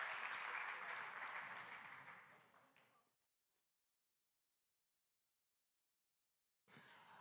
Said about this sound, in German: Schon mal danke, lass mal den Applaus geben in der Gruppe. Richtig gut.